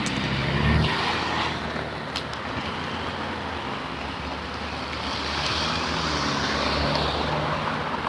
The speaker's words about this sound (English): Two cars and a truck.